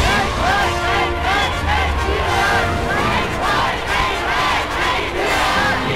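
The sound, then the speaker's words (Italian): A vast crowd in Vienna roars and cheers continuously as Hitler enters standing in his car on 15 March, a dense, loud wall of many voices with rising shouts and chant-like swells throughout. “Il 15 marzo Hitler entra a Vienna in piedi sulla sua auto tra una folla sconfinata.”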